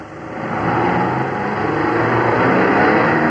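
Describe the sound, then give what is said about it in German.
A heavy engine rumbles steadily, swelling slightly as a large vehicle rolls by, its broad noise holding loud throughout with no voices. “Links die Kurve, rechts die Kurve. Prima. Dicker Brummer?”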